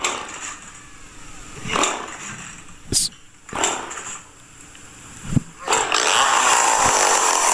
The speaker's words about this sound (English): He's literally playing. So if I go see him in concert, he's playing the chainsaw? He's playing a freaking chainsaw. You know what? I can dig it. That's actually kind of... chainsaw. You gotta love it. Yeah. Chainsaw rock, man.